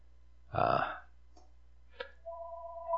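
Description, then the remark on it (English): After a loud, belch-like burst and a couple of faint clicks, a steady electronic telephone ring tone starts near the end and holds, clear, with no talking. “Forgot the phone this morning, but here it is ringing already.”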